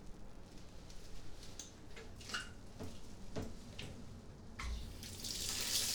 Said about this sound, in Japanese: うん、それじゃあ流すね。シャワー取ってくれる？